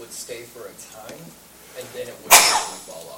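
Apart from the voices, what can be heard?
sneeze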